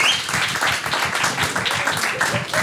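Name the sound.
warm audience applause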